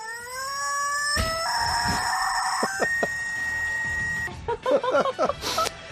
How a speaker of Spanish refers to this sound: Sí, esta ama de casa que vamos a escuchar a continuación también, o sea, una ama de casa, coloca su pollo de goma en el tubo de la aspiradora y la pone en funcionamiento.